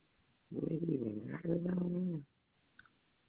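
A dog gives a drawn-out, moaning whimper with a throaty growl to it, in two back-to-back stretches, fairly loud over a muffled phone line, with nobody talking.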